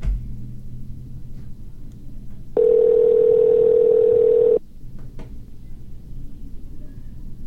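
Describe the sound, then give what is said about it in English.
A single steady telephone ringing tone from an outgoing phone call sounds for about two seconds, loud and clear, over a low background rumble, before voicemail answers. No one is speaking. “Have like reached Jacob Young. The voicemail box.”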